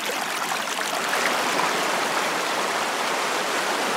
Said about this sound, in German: Die Folgen des Klimawandels kann man sehen und hören. Mal plätschert das Schmelzwasser, doch im Hintergrund sorgt ein schneller Strom für eine Art Grundrauschen.